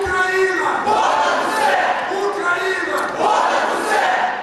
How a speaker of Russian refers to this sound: Но в зале участники протестов сразу же устроили шум, стали мешать ведущим, кричали и скандировали лозунги.